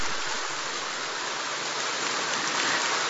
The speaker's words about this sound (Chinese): 让我们再次以最热烈的掌声，感恩大慈大悲的观世音菩萨，感恩大慈大悲的卢军宏台长。